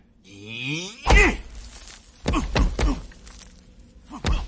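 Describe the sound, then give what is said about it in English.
Keigo punches a rock on a ledge in the daytime: five or so hard fist-on-rock thuds land at an irregular pace, loud, after a low drawn-out groaning call that rises at the start. “On the ledge, Keigo punches a rock as Udo holds onto Turk's head.”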